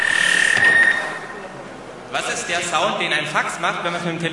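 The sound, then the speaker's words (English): A steady high electronic tone holds for about a second, then gives way to harsh, buzzing, warbling bursts of modem-like noise, the screech of a fax machine's data handshake when the fax machine is called by telephone. “What is the sound that a fax machine yes, exactly. does when you call it by telephone?”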